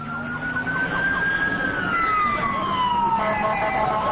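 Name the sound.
emergency vehicle sirens wailing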